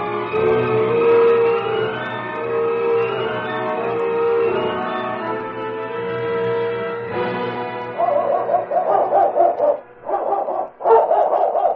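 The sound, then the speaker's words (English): Several watchdogs bark and howl together in a loud, sustained chorus with drawn-out, tonal yowls, then switch to sharper, choppy barking bursts near the end. No one speaks. “Don't be afraid of them dogs.”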